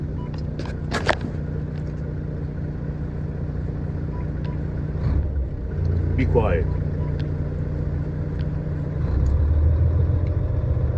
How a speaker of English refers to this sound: Damn, truck is a lot better sounding when you give it some gas.